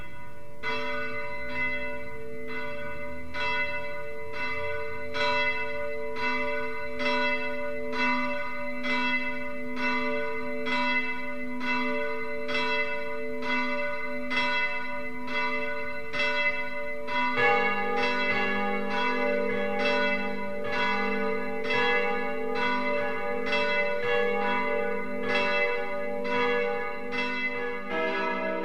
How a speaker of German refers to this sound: BR Heimat, 12 Uhr läuten. Es ist 12 Uhr. Das Mittagsläuten kommt heute von der ehemaligen Stiftskirche Mariä Himmelfahrt im oberbayerischen Dietramszell.